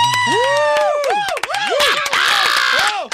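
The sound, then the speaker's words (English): An audience cheers and yells loudly for about three seconds after a song, with someone calling for an encore, overlapping high whoops and shouts rising and falling in pitch above a steady crowd roar. “Who yelled encore?”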